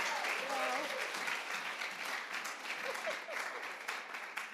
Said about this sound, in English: Give them a clap. Merci les gars.